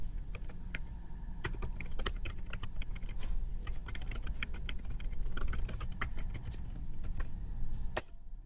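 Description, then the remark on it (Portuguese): Rapid, irregular clicking of keys on a computer keyboard while typing a text message to a contact in Skype for Business, fairly quiet, over a steady low hum, with no voices. “Eu vou abrir aqui a minha lista de contatos e vou enviar uma mensagem de texto.”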